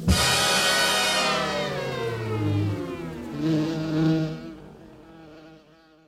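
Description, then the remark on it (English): A steady buzzing of bees drones continuously, its pitch wavering slightly as the insects move about, then gradually fades toward the end with no voices present. “Hunting for missing bees, next.”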